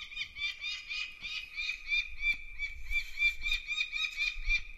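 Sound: falcon call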